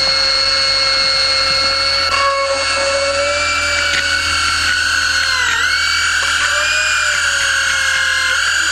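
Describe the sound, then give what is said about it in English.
A dental drill whines steadily at a high pitch for the whole stretch, its tone dipping briefly now and then as it bites in, drilling into a healthy tooth toward the pulp. It's loud, with no one speaking. “So, I'll just drill into a healthy tooth until I reach the pulse.”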